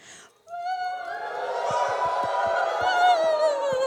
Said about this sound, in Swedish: Ja, det var ett svenskt jubel. Ni får testa det i Indien. Jag tror att det låter lite mer där.